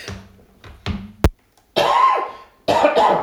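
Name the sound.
cough or throat clearing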